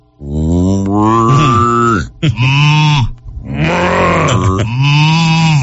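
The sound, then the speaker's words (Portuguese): An ox lows in a string of four loud, drawn-out moos, deep and harmonically rich, each bending in pitch before breaking off, with short gaps between calls. “Então, mande mugido do boi pra todos os ônibus e nos veículos desses bairros.”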